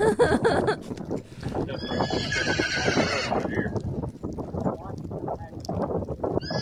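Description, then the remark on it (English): Big horses whinny loudly over a steady clatter of hooves clip-clopping on a hard surface in Etheridge, Tennessee, with a continuous busy rumble underneath and no clear talking. “Some big horses.”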